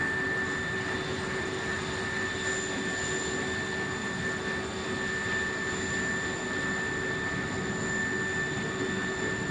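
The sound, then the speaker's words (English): A helicopter's engine and rotor run continuously during an earthquake aid operation as people, including children, run towards it: a loud, steady whine and roar with no pauses, constant and even throughout. No one speaks. “Okay, more people are making it to the helicopter.”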